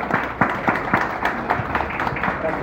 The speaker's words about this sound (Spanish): Y por último, le daremos la palabra al ministro del Interior, Luis Alberto Heber. Fuerte el aplauso, por favor.